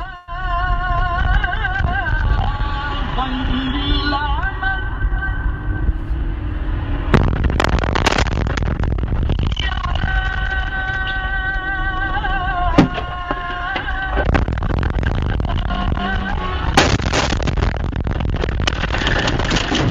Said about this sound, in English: This video came out this week from a dash cam from a car who was beside an Israeli strike in Hamadan in the western area of Iran.